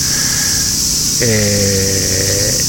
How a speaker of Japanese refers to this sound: このアリオスの前の広場はですね、広いグリーンになってまして、たくさんセミがバックで鳴いておるのが多少入ってると思います。ミンミンゼミが出てきますと夏の終わりと言われてますが、ミンミンゼミもかなり鳴いております。